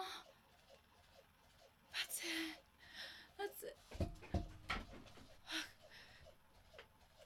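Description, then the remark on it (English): A dog pants in quick, uneven bursts, breaking into short high whimpers now and then, with a soft human voice murmuring faintly in the background. “It's coming out again, baby. Again, puppy?”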